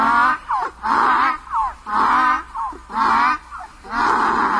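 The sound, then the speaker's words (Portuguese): A donkey at a gate brays loudly in a long, rhythmic series, harsh high honks alternating with short, lower wheezing gasps, five or six cycles with no voices. “Eu vinha vindo para casa descansar, o jegue estava no portão que me pegar. Quando me viu, foi murchando as orelhas, mostrando os dentes e começou a relinchar.”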